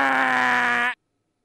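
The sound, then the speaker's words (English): A voice imitates a harsh "manual buzzer" yelled into a telephone at a telemarketer: one loud, steady, nasal drone held for nearly a second at a fixed pitch, then cutting off abruptly into silence. “if a telemarketer called during dinner, I would pick up the phone, and if they went into a pitch, I'd go with the manual buzzer.”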